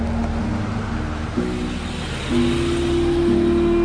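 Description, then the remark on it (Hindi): Steady rumble of a convoy of cars on the move, coming toward the listener, with some turning left and some turning right. Engine tones rise and shift as the vehicles approach and pass, with a broad hiss of road noise swelling slightly toward the end. “सामने से कारों का काफिला हमारी ओर आता हुआ, कुछ कारें बाईं ओर मुड़ गई हैं और कुछ दाईं ओर।”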